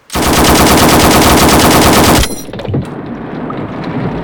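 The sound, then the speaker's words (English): A loud, rapid burst of machine gun fire rattles continuously for about two seconds, then cuts off into a low, rumbling tail of lingering noise. “I'll go in with all guns blazing.”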